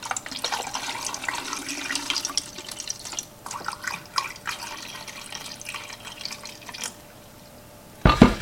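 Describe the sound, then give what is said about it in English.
Tap water pours steadily into a beaker for several seconds, a broad splashing rush, easing off before a sharp knock at the end. No one speaks. “And for this, I'm just going to use the tap water. I'm just going to pour it right in.”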